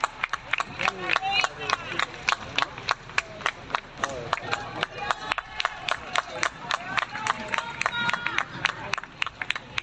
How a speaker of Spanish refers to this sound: Aplausos y cariño en esta primera jornada.